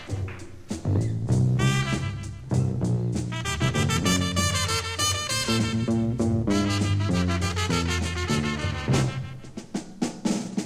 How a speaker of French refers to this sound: L'entendez-vous, l'entendez-vous? Oh oui, c'est la trompette